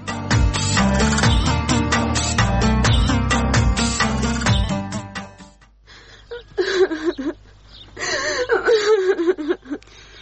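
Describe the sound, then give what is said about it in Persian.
Dense rhythmic music fills the first half, then fades out, leaving a daughter crying, whimpering in shaky, wavering sobs that rise and fall over several seconds. “دخترم بس است، دگه گریان نکن، از گریان کردن چیزی جور نمیشه.”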